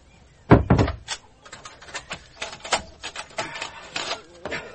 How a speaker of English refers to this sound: There. I've locked the door and barred the shutters.